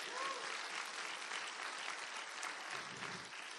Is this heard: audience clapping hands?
yes